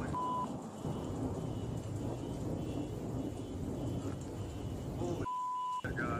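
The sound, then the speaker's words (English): A big explosion during a thunderstorm booms as a heavy, sustained rumble that fills the whole clip, with a short steady beep tone at the start and again near the end. No one speaks. “But there is a moment in time where you can hear the noise. Big explosion.”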